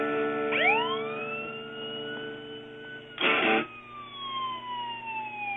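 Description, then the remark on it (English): An emergency vehicle siren wails loudly, its pitch rising sharply then slowly falling, with a steady engine drone beneath and a brief burst of noise midway. “I'm hearing a siren.”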